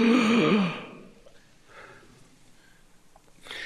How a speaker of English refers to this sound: Because one Sunday morning, at the end of communion, and don't gasp, I know you're Anglicans, but children started to descend on the table to finish up the rest of what was left after communion. Okay, gasp, go ahead.